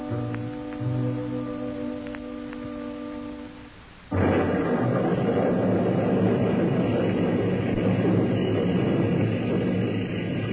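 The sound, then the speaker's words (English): A held, droning musical chord gives way abruptly to a roll of thunder and a loud, dense roar of torrential rain with a low rumbling undertone, continuing steadily to the end. “A crack of lightning, a roll of thunder, and the heavens opened and the rain fell in torrents.”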